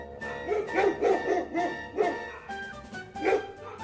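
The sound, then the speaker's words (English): A man's big dogs bark in a quick series of loud woofs, pausing briefly before one more bark near the end, with a steady tonal hum running underneath. “The ugly duckling sees a man with big dogs.”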